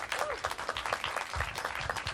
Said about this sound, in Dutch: Dankjewel. Applaus voor